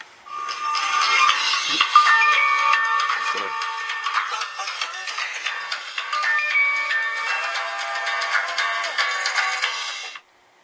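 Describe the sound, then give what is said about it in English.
A phone ringtone plays a bright, busy electronic melody with stacked tones for about ten seconds, fairly loud and steady, then cuts off abruptly; no talking over it. “Forgot to shut off my phone, I apologize.”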